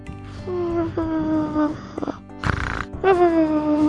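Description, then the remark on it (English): A person vocally imitates their own snoring, making several drawn-out, nasal, grunting inhales with harmonic whines and a rough snort in between. “No, that is not how a cat snores. No, that's me. That's how I snore.”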